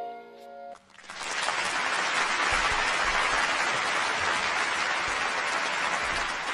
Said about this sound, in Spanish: Pues sí, señor, me uno a ese aplauso,